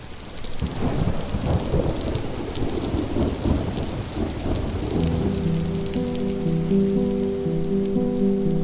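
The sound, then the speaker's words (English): A heavy midsummer downpour on the banks of the river where the Missouri meets the Kaw hisses steadily while deep thunder rumbles and rolls underneath; about halfway through, a sustained low droning tone swells in beneath the storm. No one speaks. “When they arrived, it was midsummer, and they were dropped off on the banks of the river in the middle of a heavy rainstorm and discovered that they had no land.”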